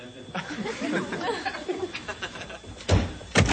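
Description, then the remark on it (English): A door opens as someone enters without knocking, with two sharp wooden bangs near the end, after a stretch of indistinct murmuring voices. “What, don't you knock when you raise in a barn?”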